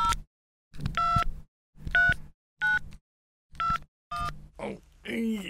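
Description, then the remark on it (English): A mobile phone keypad being dialed to call the police on an injured man's mobile phone: six short, clear electronic tone bursts at a steady pace, with brief gaps between presses, ending in a faint voice-like murmur. “Here's his mobile. Let's call the police.”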